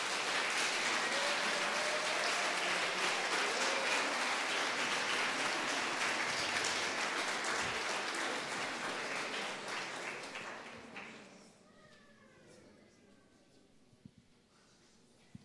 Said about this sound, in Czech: Tak můžeme jim zatleskat.